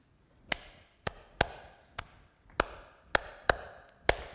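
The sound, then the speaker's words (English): Eight sharp hand claps ring out alone in a steady, slightly syncopated pattern that repeats once, a two-measure count-in before singing starts, each crisp slap trailing off quickly. “I will clap 2 measures and then start in.”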